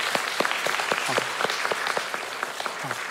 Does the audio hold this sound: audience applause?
yes